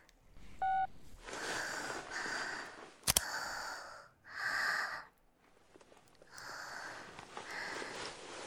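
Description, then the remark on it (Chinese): A brief burst of telephone dialing tones sounds near the start, followed by a sharp click and a series of close, heavy breaths and sniffs with no talking. “刚刚是故意的吧？你也太坏了，冲我打电话逗我”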